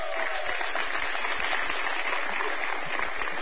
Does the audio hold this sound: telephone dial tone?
no